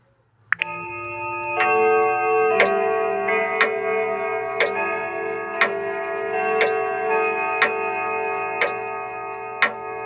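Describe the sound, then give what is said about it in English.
A real grandfather clock rings out Westminster chimes that linger, with a steady, crisp tick sounding about once a second beneath the sustained tones. No voices. “That's actually taken from a real grandfather clock.”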